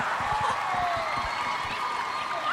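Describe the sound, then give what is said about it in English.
Girls clapping after Gronk rips up the plastic he was wrapped in on stage and frees himself, in a quick, dense patter, loud and steady for a couple of seconds, with a bright background wash of crowd noise running underneath the whole time. “Gronk rips up the plastic and frees himself. The girls clap.”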